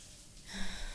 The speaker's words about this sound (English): Feels nice just standing under the water with you.